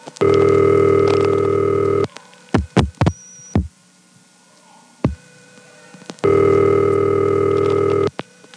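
Two long, buzzy telephone ring bursts of normal length separated by a pause, with a quick cluster of short beeps and clicks in between as the automatic number identification repeats after about three seconds of ring. No one speaks.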